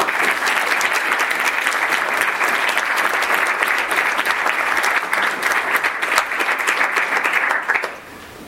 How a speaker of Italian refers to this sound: Perché se noi oggi siamo qua e possiamo votare per alzata di mano o alle urne, quindi il voto è un diritto e un dovere, lo dobbiamo a loro. Quindi un applauso.